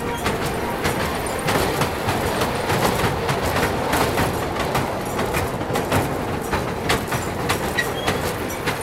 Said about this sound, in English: There is a little train, and it goes around on a roundabout. On a roundabout, only children.